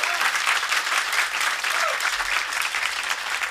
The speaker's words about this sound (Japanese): そして…の2人なんだ。あっちゃんと小島くんにも大きな拍手を。